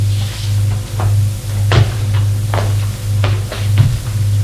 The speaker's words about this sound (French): ouvre le tiroir de la table de nuit. Non, rien. Quelques tubes d'aspirine. Et un livre de prière.